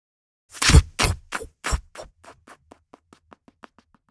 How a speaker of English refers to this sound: Swinging kitchen doors.